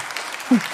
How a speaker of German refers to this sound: Da erzwinge ich jetzt einfach mal einen Applaus dafür